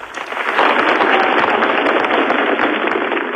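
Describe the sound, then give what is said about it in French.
Hundreds of Italians applaud steadily in Rome at the funeral of Aldo Moro's five bodyguards, as the five coffins carried by carabinieri leave the Basilica of San Lorenzo. Many hands clap at once in a dense, crackling roar that stays loud and even for the whole stretch, with no voices rising above it. “C'est en frappant dans les mains que les Italiens ont rendu cet après-midi hommage aux cinq gardes du corps d'Aldo Moro.”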